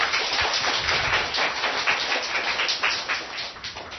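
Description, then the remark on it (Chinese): A crowd applauds steadily to encourage someone, a dense, even patter of many hands clapping at once for several seconds, with no voices over it. “要不要给他掌声鼓励？”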